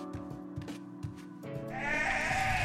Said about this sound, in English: Go on, sheep. Go outside. There's yummy grass to chew on.